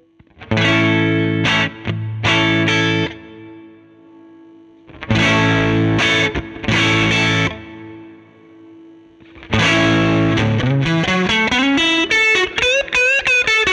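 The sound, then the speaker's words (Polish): A heavily distorted electric guitar through an overdriven amplifier, with volume turned down and master turned up so the power amp breaks up, plays loud chord bursts in three phrases separated by short gaps, ending with a sustained bending note full of harmonics; no voices. “Zobaczmy, jak łamie się tutaj końcówka mocy, więc dajmy troszkę mniej volume i podkręcajmy master.”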